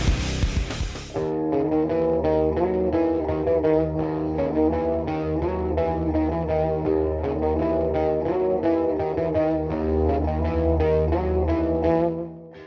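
Loud, dense thrash metal with heavily distorted guitars churning out fast, driving riffs over pounding drums, sustained at full volume after a brief noisy burst at the start. No voices.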